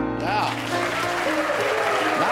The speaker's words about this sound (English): Now applause.